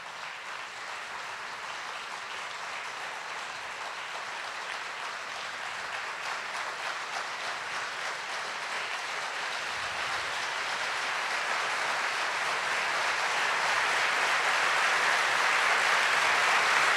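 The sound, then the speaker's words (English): A crowd, starting from the back row, makes a rainstorm with their hands to evoke the rain of the Holy Spirit: a dense patter of rubbing and clapping that starts soft and steadily swells louder into a full, hissing downpour over seventeen seconds. “And I want you to just listen and let God show you what it sounds like when the rain of the Holy Spirit starts to come across the fire-burned plains.”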